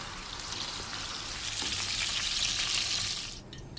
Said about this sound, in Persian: بعد از شستن سبزیجات، گوشت ها رو با ادویه، سیر، جعفری خوب مزه‌دار میکنیم و اونها رو به صورت کوفته های ریز در میاریم و بعدم سرخشون میکنیم.